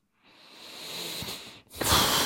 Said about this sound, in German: Muss ich schnaufen.